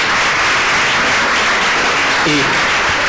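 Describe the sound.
An audience applauding: a dense, steady wash of many hands clapping at an even loudness for about three seconds, with a brief voice faintly audible underneath near the end.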